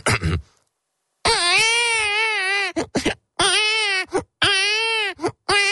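A baby cries loudly on a train in several long, strained wails, each broken by short gasping pauses, with no talking around it.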